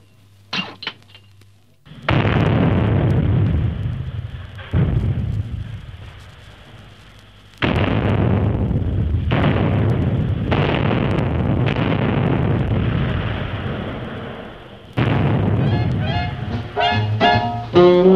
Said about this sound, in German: Der Abschuss ist bereit, Sie können zünden.